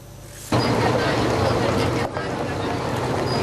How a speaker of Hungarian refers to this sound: Begördül a 40 tonnás teherautó a Margittai Horváth János iskola csoport udvarára.